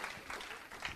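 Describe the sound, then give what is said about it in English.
A crowd applauding to welcome a speaker at a School of the Supernatural event, a dense, steady wash of many hands clapping at once without pauses, fairly soft. “Давайте аплодисментами пригласим сюда.”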